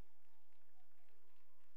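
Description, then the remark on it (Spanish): Scattered applause from an audience during a sermon, faint and brief, with soft irregular clapping spread across the whole moment and a steady low tone humming underneath. Nobody speaks over it. “Si las hermanas no aplauden, no vuelvo a predicar de esto.”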